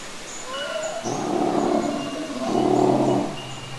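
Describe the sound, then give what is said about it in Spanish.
A dinosaur roars twice in a row, each a long, rumbling, low-pitched bellow that swells and fades, with thin bird chirps faintly in the background, in a prehistoric forest of very tall trees. “Cada vez estamos más cerca de esos sonidos. ¿Qué dinosaurio será?”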